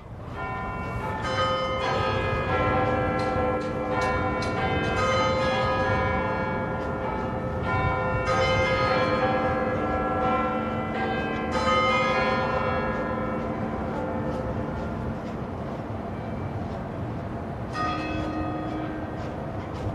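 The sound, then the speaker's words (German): Deep, resonant Big Ben bell chimes, part of a sound sculpture, ring out in overlapping, sustained tones, layered into a dense, continuous wash of sound with rumbling low drones beneath, no voices present. “hören wir nochmal uns den Ausschnitt an aus der Big Ben Soundskulptur Speed of Time”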